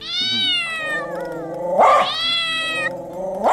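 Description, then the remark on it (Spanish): A cat, alongside a dog, yowls and caterwauls in long, drawn-out wails that waver in pitch, with a harsher, louder cry in the middle, as it tries to pounce on a person for a blood sausage. It is fairly loud, with no talking. “¡Aparta al perro y al gato! ¡Que se quieren abalanzar hacia mí!”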